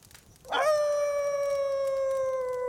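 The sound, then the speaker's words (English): A rabbit, one of several roasting marshmallows around a campfire, gives a single high, drawn-out howl that swoops up at the start, then holds a steady, loud, tonal note for about two seconds, alone with no talking. “As several rabbits roast marshmallows around a campfire, one howls.”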